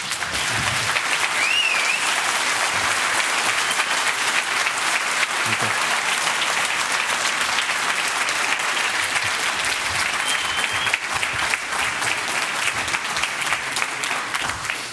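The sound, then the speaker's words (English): An audience applauds steadily for the full fifteen seconds at the end of a talk on a low-cost chip microprobing setup, a dense, even wash of many hands clapping at constant loudness with no voices standing out. “Yeah, applause indeed.”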